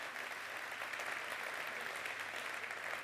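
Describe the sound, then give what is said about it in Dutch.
Sustained applause from a large audience for the Roosendaal party branch, a steady dense wash of clapping hands for a few seconds without pause. “En ik wil u graag een applaus vragen voor de afdeling Roosendaal.”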